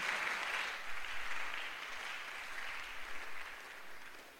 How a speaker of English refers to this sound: Oh, are you clapping for Jesus?